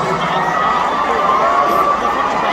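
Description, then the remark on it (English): A crowd cheers and shouts for a contestant who has just won, in a steady, loud roar of many voices, with whoops and screams rising above the continuous wash of noise throughout. “Make some noise for one more time, baby.”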